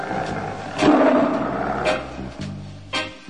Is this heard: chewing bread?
no